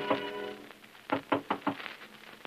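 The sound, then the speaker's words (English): Four firm knocks on a woman's bedroom door in a quick, even rhythm, rousing her, following a brief tonal sound at the start, with one faint tap near the end. “a little dewy-eyed, a little dazed, a little impervious to the knocking on her door that finally rouses her from love's sweet coma.”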